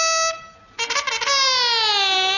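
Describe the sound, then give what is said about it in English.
A loud, harsh alarm blares with a buzzy, horn-like tone, stutters in a brief choppy burst, then holds and slowly sags downward in pitch. It is sounded on order as the enemy approaches. No one speaks. “Enemy are approaching, sir. What? Sound the alarm.”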